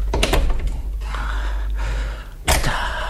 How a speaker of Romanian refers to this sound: Mama, se mișcă. Liniște. Se mișcă. Întoarce cheia în broască.